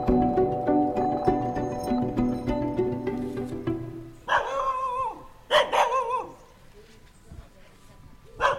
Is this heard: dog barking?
yes